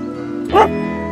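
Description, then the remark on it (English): A single short bark from a dog at a dog parade sounds once, fairly loud, over a steady low background hum, with nothing else happening before or after it. “Hey, do you want to count the dogs in the dog parade?”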